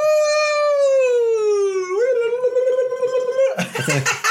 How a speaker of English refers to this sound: You wildcarded. That's incredible. That's the wildcard alarm, which it does sound racist to Native Americans, but it honestly isn't. It's not. It means free spirit.